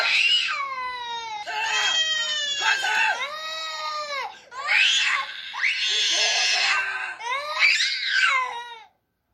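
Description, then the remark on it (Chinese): A young child cries and wails loudly, high-pitched sobbing cries rising and falling in long, strained bursts with brief catches of breath between them, continuing for several seconds, in a real recording of domestic abuse from a case in Zhudong Township, Hsinchu County. “再来，我们来听一段真实家暴的声音。”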